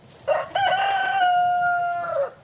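A single rooster, a domestic chicken descended from the red jungle fowl of the pheasant family, crows loudly, a short clipped opening note breaking into one long, sustained, raspy cock-a-doodle-doo that trails off after about two seconds.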